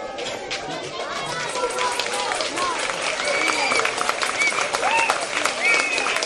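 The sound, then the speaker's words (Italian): At a school gathering, a crowd claps steadily for the school head closing the speeches, a dense, even patter of many hands held at a fairly loud level throughout, with scattered voices and cheering calls rising through the applause. “Questo applauso è la testimonianza del lavoro che dal 2 settembre, 1 settembre, noi stiamo toccando con mano, l'impegno”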